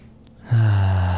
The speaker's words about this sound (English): So if you feel like you're not breathing, just pause with me for a second and just breathe.